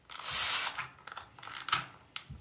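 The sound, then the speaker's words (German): A spray bottle trigger is squeezed, giving a sustained hiss of mist, followed by several quick plastic clicks and short spritzes as the trigger snaps back, fairly quiet with no talking. “Bei dem besagten Geräusch handelt es sich um eine Sprühflasche.”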